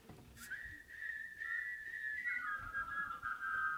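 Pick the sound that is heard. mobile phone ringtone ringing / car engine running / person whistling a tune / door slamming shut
person whistling a tune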